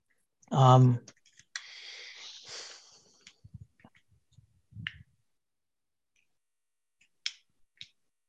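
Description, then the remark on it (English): A handful of irregular keyboard taps as someone types up a comment, some soft and some sharper, after a brief voiced sound and a stretch of breathy noise, with quiet gaps between keystrokes. “Yeah, I'm typing up a comment about that now.”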